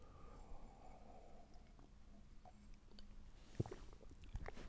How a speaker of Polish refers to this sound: No, więc łyk herbatki.